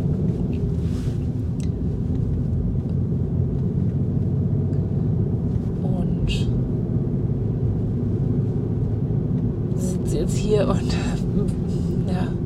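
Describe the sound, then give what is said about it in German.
A steady, deep rumble fills a car interior throughout, recorded on a clip-on lapel microphone by someone sitting in the car, constant, with a few brief rustles and soft clicks standing out above the drone. “Ich sitze im Auto und habe mein Ansteckmikrofon dabei.”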